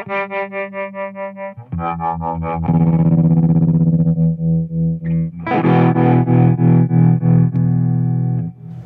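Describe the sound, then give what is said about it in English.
Electric guitar run through a choppy sawtooth-wave tremolo effect, Vox style, its sustained chords pulsing in rapid, even beats like helicopter blades. Loud and without any voices, it builds from a thinner note to a fuller, distorted chord. “Just the sawtooth is drastic, you know, drastic. Helicopter. Yeah, Vox style.”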